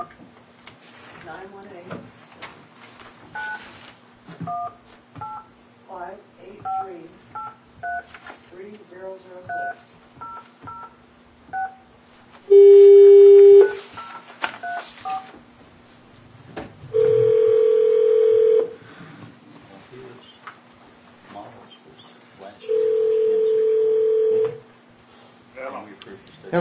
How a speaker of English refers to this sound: when you dial for Mr. Rose, you have to put your long distance code in